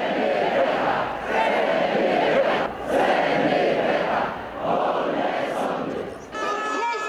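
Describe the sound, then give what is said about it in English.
A large crowd of Polish people fills the streets of Poland in protest against a law giving the government more power over the Supreme Court, shouting and chanting in loud, rhythmic surges, the massed voices swelling and dipping roughly every second or so, with a brief shift in the din near the end. “Many Polish people roared in protest, filling the streets to fight against the new government's push.”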